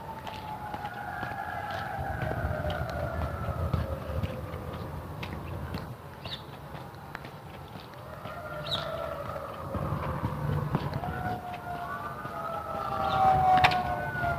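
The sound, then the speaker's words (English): Several sirens wail at once, their pitches sweeping slowly up and down and overlapping, over a steady low rumble of outdoor traffic noise. “I don't know if you can hear the sirens, but there's lots of sirens.”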